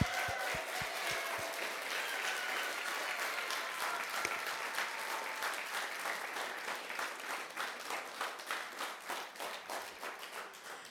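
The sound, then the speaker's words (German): Sustained applause from a church audience for those who sang, many hands clapping in a dense, steady wash that grows into more distinct rhythmic claps toward the end, loud throughout with no talking over it. “Ich finde, wir können nochmal einen großen Applaus geben, oder?”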